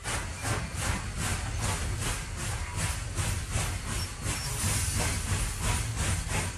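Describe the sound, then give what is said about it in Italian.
A steam locomotive chuffs in a steady, rapid rhythm beneath a constant loud hiss of steam, continuous with no voices, as the train gets under way. “Appena il treno ebbe incominciato a muoversi, Marcello lasciò il finestrino al quale si era affacciato per discorrere, o meglio per ascoltare, i discorsi della suocera e rientrò nello scompartimento.”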